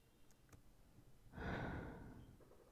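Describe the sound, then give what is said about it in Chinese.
A soft breath of air blown in one long exhale, swelling then slowly fading, like someone blowing gently into the listener's ear. A couple of faint clicks come before it. “别抖，不就是在你耳边吹气吗？”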